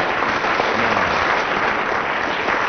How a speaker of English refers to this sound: I'm afraid we can't chalk up a world record for the programme, but nonetheless, let's have a round of applause for Tim Wilson.